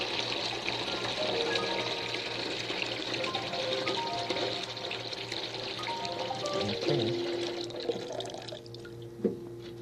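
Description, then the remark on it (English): Cold water pours steadily into a big pail, a continuous splashing rush with rising gurgling tones as it fills, then a small clunk near the end. No one speaks. “Cold water?”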